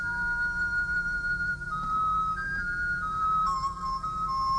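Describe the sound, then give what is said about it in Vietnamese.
A bamboo flute, played by the Buddha, sounds a slow, gentle melody of long held notes that step up and down in pitch, steady and fairly soft over a low background hum, with no one talking. “Phật bắt đầu thổi sáo.”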